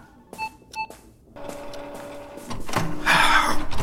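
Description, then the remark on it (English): A printer beeps twice in short tones, then whirs with a steady mechanical hum before breaking into a loud, rough grinding and rattling, as if jammed. No one speaks. “Printer trouble, is it, Constable?”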